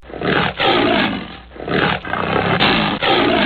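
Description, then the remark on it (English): A tiger roars loudly, a series of rough, rumbling growl-roars in about four surging bursts with brief pauses between them, no voices present. “I like tigers. Tigers are beautiful animals.”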